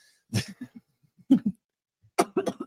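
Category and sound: human body sound, coughing fit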